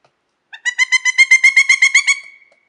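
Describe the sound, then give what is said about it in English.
A pileated woodpecker, a big crow-sized black, white and red bird, gives its loud, ringing call, a rapid series of about a dozen evenly spaced wuk notes that fade slightly at the end, clear and alone. “It's the largest member of the Picatinny family in North America. It's about the size of your standard-issue crow.”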